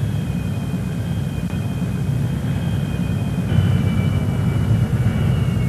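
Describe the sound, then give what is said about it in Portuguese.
A steady jet engine drones with deep rumble and a thin high whine, rising slightly in intensity midway, as a jet aircraft taxis along the ground, driven by a trainee pilot with the instructor on the left wing. No voices. “Com o instrutor na asa esquerda, o treinando começa a taxiar.”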